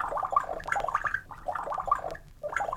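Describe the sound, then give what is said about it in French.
Liquid glugs out of a bottle in three uneven, bubbly bursts with short pauses between, a gurgling pour with no voices. No clear cork pop stands out. “débouche la bouteille, verse à boire.”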